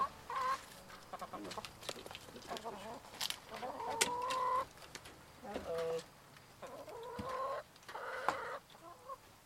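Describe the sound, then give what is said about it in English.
Several chickens cluck and squawk in short, repeated bursts in their coop behind a house, fairly loud, with brief pauses between calls and a faint background hum. “chickens have returned to live in their coop behind her former house.”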